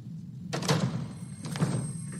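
Two heavy door slams about a second apart, loud and close, each a sharp crashing thud with a rattling tail, over a low steady hum.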